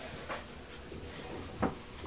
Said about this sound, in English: I can hear banging as well. Can you hear banging? That's coming from the builder next door.